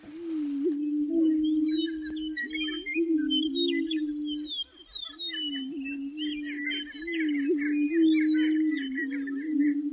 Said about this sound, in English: The sound of two dozen greater prairie chickens trying to attract hens in the dark chill of a pre-dawn spring day leaves one reaching for similes. They call this sound booming.